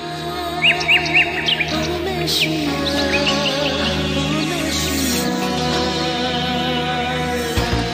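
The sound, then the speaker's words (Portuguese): A small white bird chirps as it passes in front of a crying Gohan in an animated scene, in a quick run of three or four high, bright notes early on, then fades behind a steady, sustained musical backdrop. “Nesse momento o Gohan, ele tá com uma cara incrédula, chorando, e tá passando um passarinho branco na frente dele.”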